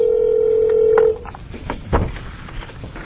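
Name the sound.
telephone dialing tones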